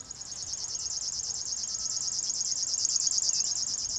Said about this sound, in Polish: Podsumowując, strumieniówka bzyczy.